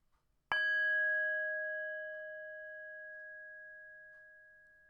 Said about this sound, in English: And so I'll pause here for a moment, give you a chance to think of a minor problem that you would like to work on, and then I'll invite the bell to begin.